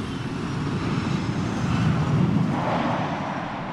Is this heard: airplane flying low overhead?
yes